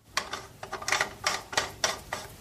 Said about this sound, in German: und jetzt könnte ich im Prinzip schon wieder den Wasserhahn zuschrauben. Das werde ich auch machen. Nachdem die Dichtung noch einigermaßen glatt ist, keine Kalkablagerungen hat und auch keine Rille oder Wulst, dann schraube ich das Ganze wieder zu.